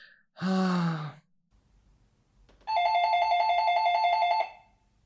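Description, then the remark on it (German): A sustained electronic doorbell ring with steady pulsing tones sounds for nearly two seconds, loud, after a brief sigh-like vocal sound and a short quiet pause. “Es hat geklingelt.”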